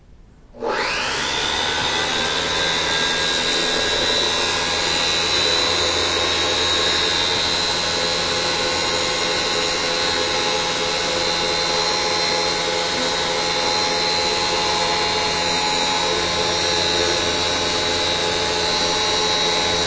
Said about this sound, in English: So that having been said, here we go. Here is the sound of the Lintos PB14 Pro universal power nozzle. All right, plug this in. Here we go.